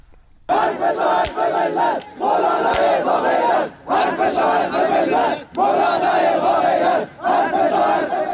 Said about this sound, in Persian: به گزارش کمپین فعالین بلوچ، حامیان محمد حسین گرگیج، مشهور به مولوی گرگیج که شمار آنها به 100 نفر می رسید، در تجمع روز یک شنبه شعارهایی در حمایت از امام جمعه گالیکش سر دادند.